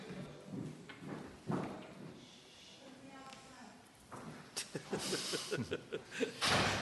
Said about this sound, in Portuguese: Só encostarei a porta.